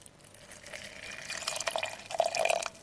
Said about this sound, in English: Now we will add 100 milliliters of water.